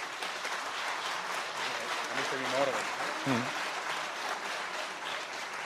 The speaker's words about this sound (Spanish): Venga, un fuerte aplauso para ellos. Venga.